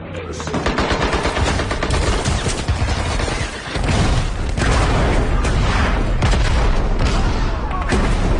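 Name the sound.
machine gun fire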